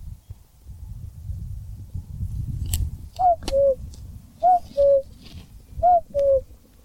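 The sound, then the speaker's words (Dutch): A common cuckoo calls its two-note, falling cu-coo three times in steady succession, clear, after a few seconds of low rumbling background noise. “Ja, daar komt ie. Oh, de koekoek.”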